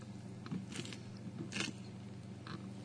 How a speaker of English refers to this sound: I'll give you a couple seconds while I take a sip here.